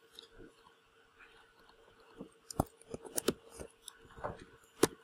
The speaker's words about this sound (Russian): На использование ввода с клавиатуры. Сейчас я с клавиатуры ввожу. И он двигается, эта штучка.